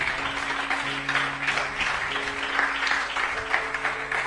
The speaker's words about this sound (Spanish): Dale ese aplauso al Señor. Venga.